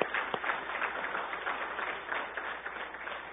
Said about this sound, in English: I tell you, let's give them a round of applause. These guys are great kids.